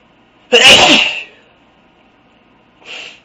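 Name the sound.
a person sneezing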